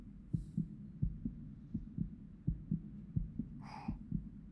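A quick, steady heartbeat thumps low and close, its paired beats repeating in a rapid rhythm, with a brief soft rustle near the end and no talking.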